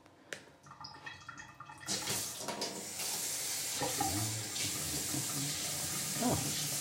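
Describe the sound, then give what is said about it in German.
A few clinks and clatters, then a steady splashing rush of sausage water poured off into a sink, continuing loudly for several seconds with small knocks in between. “Gut, dieses Wurstwasser gießen wir gleich ab.”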